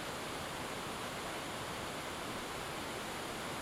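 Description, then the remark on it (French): A rushing waterfall pours in a steady, unbroken roar, a dense wash of water noise that holds evenly throughout at a moderate level, with no voices. “Caché derrière les remous bouillonnants de la cascade, la 8e étoile.”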